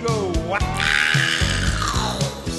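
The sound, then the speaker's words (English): A shrill, wavering witch scream from a number one record rises and warbles in pitch, sung over a steady musical backing with thumping bass notes, loud throughout. “there's a witch screen in there.”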